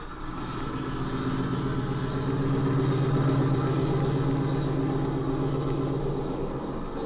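A small airplane engine drones steadily at low power while taxiing across water toward a shed, a continuous rumbling hum with a faint pulsing beat, fairly loud throughout with no voices.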